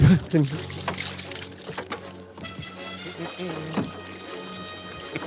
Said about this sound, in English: I'm going to share one more clip from the movie. This is the burning boat battle scene,